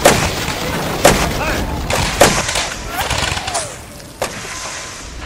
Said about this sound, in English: fire! The cannons!